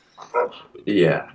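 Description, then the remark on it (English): A dog in a backyard barks twice in quick succession, the second bark longer and louder, with a slightly muffled quality. “But, do you hear that dog barking in the background?”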